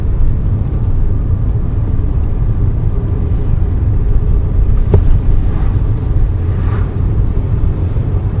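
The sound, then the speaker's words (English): A car drives steadily along an old recessed country road between Chester and Romsey, its low engine and tyre rumble filling the whole stretch with a constant, fairly loud drone and one brief click partway through. “It's a very optimistic car, this.”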